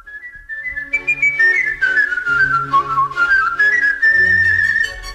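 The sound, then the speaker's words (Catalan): A professional whistler's virtuosic whistled rendition of the Queen of the Night aria from Mozart's The Magic Flute, bright and agile with quick runs and sustained high notes, performed solo over a soft orchestral accompaniment, clear. “Es tracta de la Reina de la Nit, de la flauta màgica de Mozart.”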